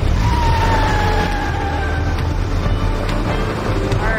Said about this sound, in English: A car speeds away.